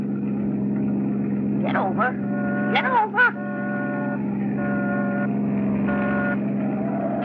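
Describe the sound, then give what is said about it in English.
A car engine drones steadily and loudly throughout, a constant low hum, as a car with a California plate comes up fast from behind on the road, with a few brief voice-like tones rising over it midway. “We've got company behind us.”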